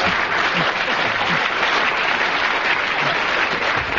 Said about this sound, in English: I don't know whether the audience are applauding because they agree or just applauding your magnificent performance, Derek.